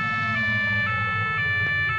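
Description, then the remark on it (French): A police car siren wails steadily as the car arrives at a parking lot, with short pulsing accents about every half second over a low engine rumble. The siren is loud, and no one speaks. “Et tu vois une voiture de police qui arrive.”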